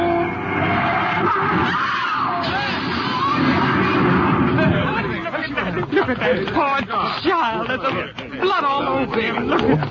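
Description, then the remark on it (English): A loud, roaring car crash with screeching and clattering, as a car coming out of a side street is hit, fills the first half, then agitated voices talk over the fading noise. “Car coming out of that side street. Let them look out. You're going to hit!”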